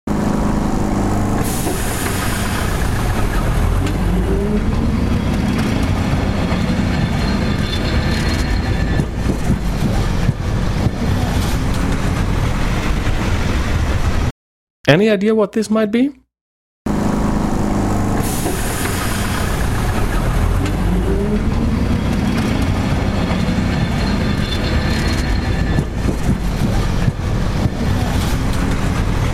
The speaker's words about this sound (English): Well, that's an old tram in the streets of Lisbon in Portugal. Beautiful tiny yellow vehicles. Yeah, they are pretty famous. I'm sure you've seen them on those pictures and postcards.